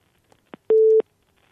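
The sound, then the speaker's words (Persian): A telephone busy signal from a failed, disconnected phone call: a steady electronic tone sounds once for about a third of a second, framed by brief clicks, with silence around it and no voices. “خب باز هم تماس ناموفق بود و قطع شد.”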